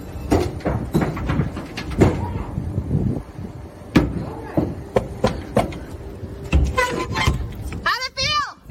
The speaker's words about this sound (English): For those of you listening to the audio, the door to this trailer looked like there was like an animal trying to get out. And when the door opens, well, let me play the video.